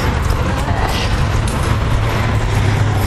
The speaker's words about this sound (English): We're still by the buildings here, though, or the long building that makes up Nanny Village. And as you can hear, the car is reverberating off the wall here.